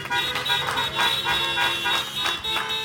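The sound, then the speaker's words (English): Several car horns honk together in a sustained, overlapping blare, some louder than others, with brief pulses rising and falling over about three seconds, sounded in response to a preacher asking for clapping or horn honking during a service. “Let me hear just by sign or showing of either clapping your hands or the honking of your horn.”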